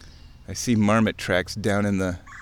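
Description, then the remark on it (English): A human voice imitates a trilling brr-brr bird call in three rolling, buzzy bursts, fairly loud, with brief pauses between them. “If you're hearing a brr, brr type of bird noise, that is a red”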